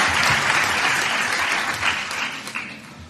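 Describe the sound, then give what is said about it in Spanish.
An audience applauds steadily, a dense wash of many hands clapping that holds fairly loud throughout and eases slightly toward the end, with no voices standing out. The applause is for the regional minister (conseller) of Education, Universities and Employment, José Antonio Rovira, at a Universidad Miguel Hernández academic ceremony. “Basta el atril, el aplauso también para el conseller y lo vamos a escuchar.”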